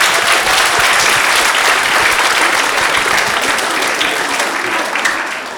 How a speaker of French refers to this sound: Et pour débuter, je vous demande un tonnerre d'applaudissements pour Daniel Picouli, s'il vous plaît.